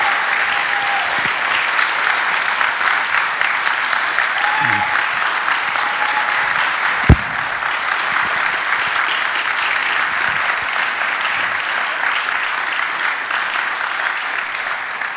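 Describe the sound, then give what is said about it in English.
An audience at Eastwood applauds their pastor on his 10-year anniversary as pastor, many hands clapping in a dense, steady wash that holds at an even loudness for the whole stretch, with a faint voice or two and one sharp knock partway through. “Let's give Bill just a round of applause.”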